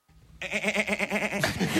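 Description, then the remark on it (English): A man's voice attempts a rolled R that comes out as a quavering, sheep-like bleat, a rapid wobbling vibrato held for over a second, loud, then breaking into a rougher rasp. “He sounds like a sheep.”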